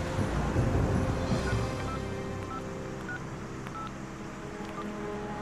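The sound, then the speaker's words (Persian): Several short telephone dialing tones beep at irregular intervals as a woman places a call and leaves the phone on, fairly faint, over a steady low rumble and hiss of background noise, with no voices. “زنه زنگ زده گوشی رو روشن گذاشته.”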